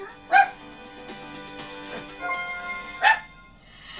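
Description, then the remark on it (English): Dogs bark twice, two sharp, loud yaps about three seconds apart, over a steady low tonal hum in the background. “Shut up! Sorry, folks. I have dogs.”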